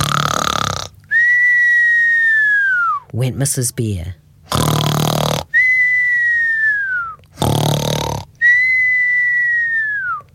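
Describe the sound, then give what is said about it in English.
A voice imitates Mrs. Bear snoring in a children's story: three rhythmic cycles, each a loud, rough snorting breath followed by a high whistle that slides downward, with a brief spoken bit in between. “Mrs. Bear began to snore.”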